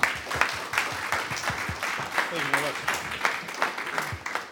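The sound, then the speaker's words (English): An audience applauds with a steady, sustained wash of many hands clapping to welcome a speaker and singer at the 200th Brown Bag talk of the Daily Worker Daily Lives series, while a voice briefly talks partway through. “Please give him a round of applause and a welcome to the 200th Brown Bag in our 20th year of our Daily Worker Daily Lives.”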